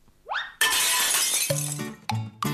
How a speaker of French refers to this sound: Savez-vous casser la vaisselle à maman?